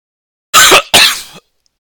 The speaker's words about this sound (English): Oh, I'm going to cough. One sec.